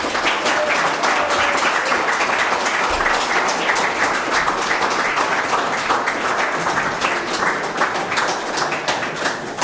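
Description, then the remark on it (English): Sustained audience applause, a dense, steady wash of many hands clapping at an even loudness throughout, with no voices breaking through. “And give a big round of applause and thanks to him for journeying here all the way from Darren Park Primary School in Wales.”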